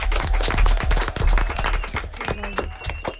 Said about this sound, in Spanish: Molt bé, primer de tot un aplaudiment, no?